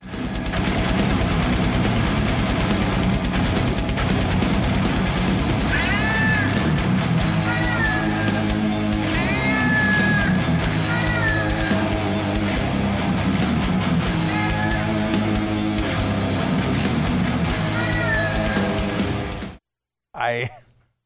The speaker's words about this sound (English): Before we head out today, there is a new song from a metal band that is, it's Cats. Cats playing heavy metal. Listen.